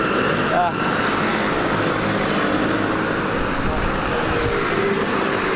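Motorbikes rumble steadily up an uphill road, their engines droning loud and continuous over a dense wash of street traffic noise, with no break for the whole stretch.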